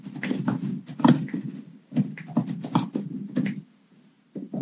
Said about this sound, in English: The typing noise is coming through very strangely.